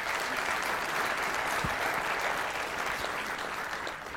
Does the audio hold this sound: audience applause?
yes